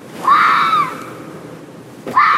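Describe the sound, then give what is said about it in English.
A fox gives a loud, harsh, high-pitched shriek at night outside a bedroom window that lasts about a second, then another scream begins after a short pause. The call sounds wavering and eerie over a faint hiss, with no talking. “is used to hearing barking foxes outside her bedroom window. More like insane, freaky shrieking.”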